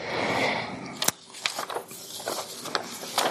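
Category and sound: household object, shuffling through papers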